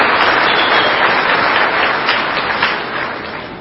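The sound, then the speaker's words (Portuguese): Sustained, dense applause from a crowd for mayor Ernesto Roller and vice-mayor Gustavo Marques at their swearing-in, a loud steady wash of many hands clapping that holds for several seconds and eases slightly toward the end, with no voices. “Uma salva de palmas ao prefeito Ernesto Roller, vice-prefeito Gustavo Marques.”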